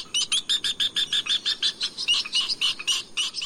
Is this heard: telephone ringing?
no